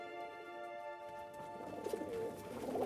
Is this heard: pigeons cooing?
yes